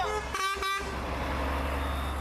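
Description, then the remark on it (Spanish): Two short, loud truck horn blasts in quick succession over a steady low rumble of heavy engines idling and moving, as World Food Programme aid trucks cross from Egypt into Gaza. “Los primeros camiones del Programa Mundial de Alimentos cruzaron desde Egipto hacia Gaza.”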